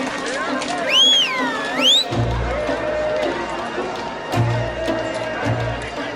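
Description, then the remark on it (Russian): Horse hooves gallop in a rapid, rhythmic run of heavy thuds, loud, as someone approaches on horseback, following a brief opening of swooping whistle-like tones. “Слышите? Опять топот копыт. Снова кто-то едет?”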